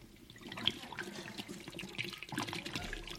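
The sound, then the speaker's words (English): Whiskey glugs and splashes steadily as it is poured down a kitchen sink, a continuous pour with small irregular spatters and gurgles, heard on its own without any voices. “I'll go and give them a hand in the kitchen, pouring the whiskey down the sink.”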